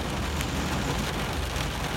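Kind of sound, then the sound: nature, rain falling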